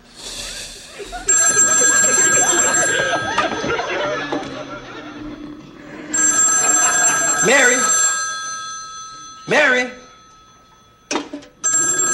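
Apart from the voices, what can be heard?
telephone bell ringing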